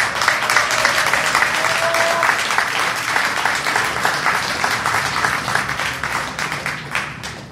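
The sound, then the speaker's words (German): Sustained applause from an audience fills the whole stretch, a dense, steady patter of many hands clapping at an even loudness with no voices rising above it. “Der ist heute in Deutschland und erhält einen Preis für Zivilcourage, für sein engagiertes Eintreten gegen die Gentechnik und ich denke, das verdient Applaus.”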